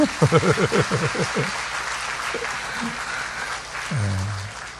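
A crowd applauds steadily with dense, continuous clapping throughout, while a man's voice speaks over it at the start and again briefly toward the end.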